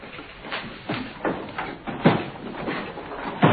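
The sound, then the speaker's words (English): A locked door being tried and jostled, with a series of irregular thuds and rattles as it is pushed and shaken without opening. “It's locked. I can't open it.”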